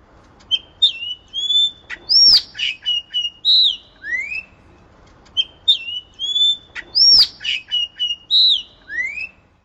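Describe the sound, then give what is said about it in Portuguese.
A xexéu, or yellow-rumped cacique, sings a varied, loud phrase of whistles, chirps and sharp clicks, repeated twice with a short pause between, over faint background noise. “Xexéu.”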